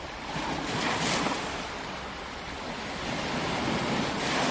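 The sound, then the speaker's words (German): Ocean waves break and wash onto a beach on the northeast coast of Brazil, washing up black oil patches, in a steady, broad roar, swelling slightly around the first second and again near the end, with some wind noise and no voices. “Noch immer spülen die Wellen schwarze Ölflecken an die Strände.”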